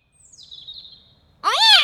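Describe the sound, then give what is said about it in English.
A cat named Clarence gives one loud meow that rises and falls in pitch, near the end, after a faint high thin whine. No one speaks. “Oh, naughty cat.”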